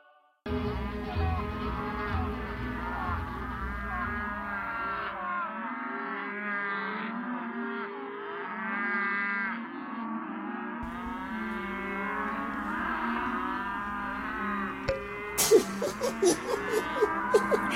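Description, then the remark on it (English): A whole herd of cows moos at once, long overlapping lowing calls blending into a steady, dense chorus that fills the scene, with a brief noisy clatter near the end. “who would have thought there would be cows in heaven? And so many”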